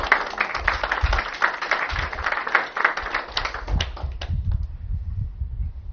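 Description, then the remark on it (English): An audience claps for people as they sit down, breaking into sustained applause of many hands in a dense, steady patter that fades out over the last couple of seconds, leaving a low rumble behind. “So you guys can sit down and we'll clap for you.”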